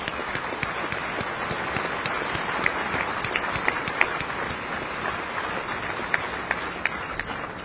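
A crowd applauds steadily for several seconds, a dense patter of many hands clapping at once with a few sharper individual claps standing out, fairly loud and close, with no talking over it.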